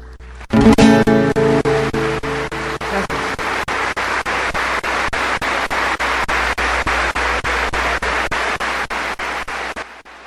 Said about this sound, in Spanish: Un último y fuerte aplauso para nuestro Dios, ¿sí?